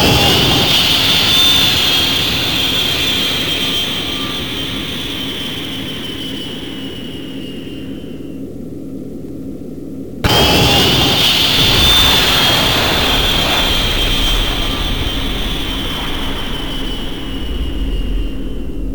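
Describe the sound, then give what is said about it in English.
Loud, continuous roar of Russian enemy fighter jets with a high-pitched whine on top as weapons are fired at them. The roar cuts out abruptly midway and then surges back at full strength. No voices. “Fighter Jet 1 was hit and destroyed at a range of 6,994 meters.”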